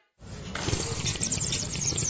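A loud, wet slurp of ramen noodles that starts abruptly and continues as a steady, hissing, gurgling draw for about two seconds, heard alone with no talking.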